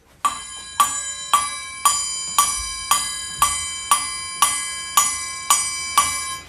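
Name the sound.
clock striking midnight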